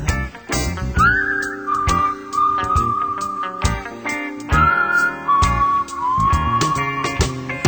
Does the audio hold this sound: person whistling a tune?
yes